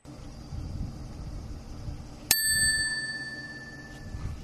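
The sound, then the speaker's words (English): A single bright bell strike rings out partway through, its metallic tone lingering and slowly fading over a steady low rumble in the background. “So this is yours truly, the Scarbo Dude, signing off. It's just been a happy and enjoyable occasion. Bye for now. Ding dong ding.”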